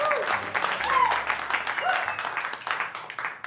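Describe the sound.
An audience at Hales Ales Brewery and Pub applauds steadily to welcome a singer, a dense patter of many hands clapping, with a few voices and whoops mixed into the crowd noise.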